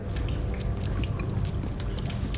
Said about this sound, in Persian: صدای آب داخل لوله های فاضلابو میشنویم؟ داره به این سمت حرکت میکنه.